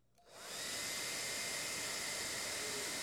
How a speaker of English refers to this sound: And we're going to let this ping pong ball represent ourselves, and we're going to let this hair dryer represent the Holy Spirit in our life. And so what we'll do is we'll turn this hair dryer on.